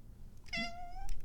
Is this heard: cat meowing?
yes